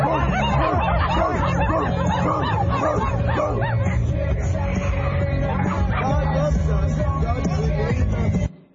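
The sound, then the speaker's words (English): At a Pride Parade in Seattle, Washington, a crowd of people barks and yips like dogs at a Christian street preacher, many voices overlapping in a loud, continuous, chaotic chorus with some murmuring and laughter mixed in, ending abruptly. “Barking like dogs.”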